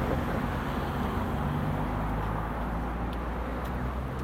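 road traffic noise

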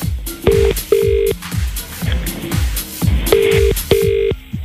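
telephone ringing

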